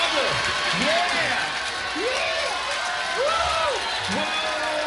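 crowd, crowd applauding and cheering

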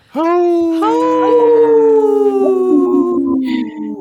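animal, wolf howling

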